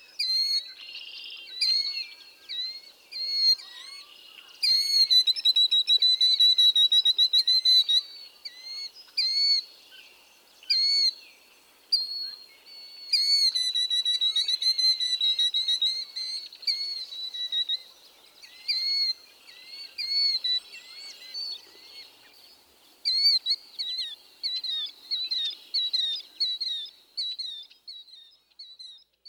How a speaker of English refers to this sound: This vocalization is often given in flight, at times sounding like kadee, kadee, kadee, or just dee, dee, dee. Here are various vocalizations of the killdeer.